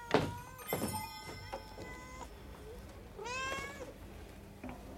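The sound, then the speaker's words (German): A person imitates a cat's meow with a thin, drawn-out, wavering cry rising and falling, preceded by a few short knocking thumps, fairly close, with no speech. “Warum sollst du nicht als Abwechslung einmal miauen? Mei, das klingt ja ganz armselig.”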